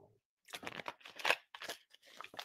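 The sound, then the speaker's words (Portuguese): Quiet sips of water to relax the throat, with a few soft gulps and light plastic crinkling, as if drinking from a bottle, in short bursts over a couple of seconds with no talking. “Um golinho d'água para relaxar a garganta.”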